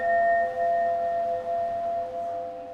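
Chimes ring out in long, overlapping metallic tones at a few steady pitches, each note sustaining and gently wavering as new strokes join in, with no voices present.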